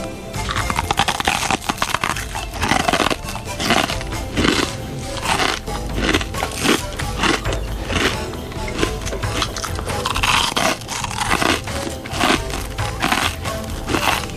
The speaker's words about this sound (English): I thought I would actually break my fast now by eating a fortune cookie on the air and reading the fortune. Well, please do so, Professor. Yeah, so the listeners hopefully will not be disturbed by the very loud crunching noises.